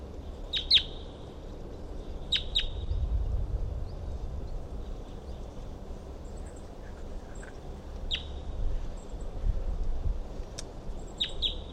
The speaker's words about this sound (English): So recording, I can see a wild bird perched up on the top of a dead tree nearby, and it was calling.